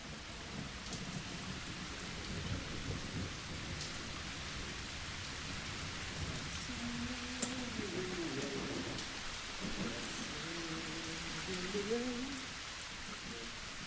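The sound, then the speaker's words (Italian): Steady, dense rain hisses throughout, a constant wash of falling water with a low rumbling undertone, and faint voices murmur beneath it in the second half. “La pioggia mi mette allegria.”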